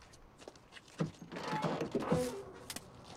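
A man opens the driver's door of his car on a dimly lit path: the door clicks open with a dull thunk, followed by a short rustling, creaking stretch and a final sharp click, moderately loud, with no talking.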